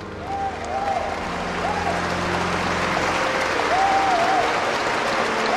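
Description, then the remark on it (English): A crowd applauds steadily as Van Nguyen's funeral ends, a dense wash of many hands clapping at once that holds an even loudness throughout, with faint whistling or tonal calls rising briefly above the clapping. “As Van Nguyen's funeral ended, people began to applaud.”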